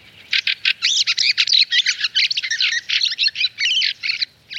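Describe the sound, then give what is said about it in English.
Fieldfare thrush calls: a rapid, continuous run of harsh, chattering chacks, fairly loud, with short bursts tumbling over one another and no voices. “The sight of flocks of up to 100 strong field fares is one of the great delights of a frosty morning, as they descend from the skies to feast on the apples which litter many a garden.”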